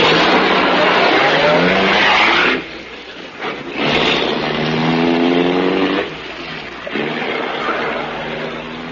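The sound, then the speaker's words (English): A racing car engine roars loudly, its pitch climbing as it revs through gears in several bursts, with short drops between them and a hint of tyre squeal. “In this racing car this time.”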